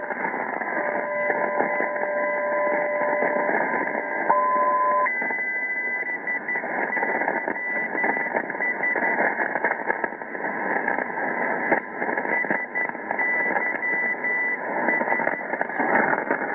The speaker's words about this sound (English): Here's another aviation beacon. Now, this is in Canada. The Canada ones have, a lot of them have, it's called DAID. It's a dash after the ID in Morse. So you hear a long dash, and you can tell those are Canadian.